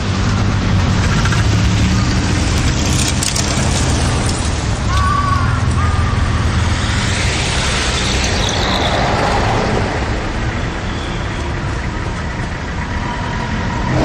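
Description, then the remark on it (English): Steady road traffic at a pedestrian crossing rumbles, with idling engines, a deep heavy-vehicle drone and a brief hiss like an air brake, continuous and fairly loud throughout with no talking. “Wait for the lights to stop the traffic.”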